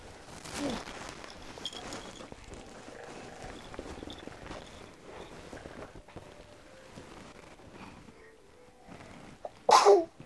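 sneeze

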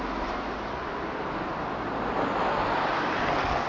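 passing cars

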